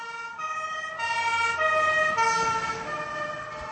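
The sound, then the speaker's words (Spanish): An ambulance siren wails steadily and loudly, alternating between two pitches in a hi-lo pattern, with faint traffic rumble beneath and no voices. “El Servicio de Emergencias de la capital checa, Praga, ha incorporado a su flota de vehículos una ambulancia acondicionada para el transporte de pacientes obesos.”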